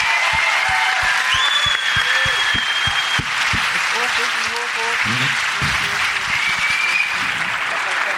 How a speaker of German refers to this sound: Liebes Publikum, euer Applaus für den Kletterfelsen.